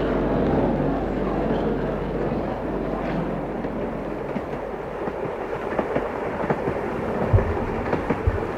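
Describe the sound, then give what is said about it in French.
A train rolls steadily along the rails with a deep continuous rumble, and sharper clacks from the wheels over the joints grow more frequent toward the end. No one speaks. “Les transports se remettent petit à petit en route. Les trains, c'est plus long.”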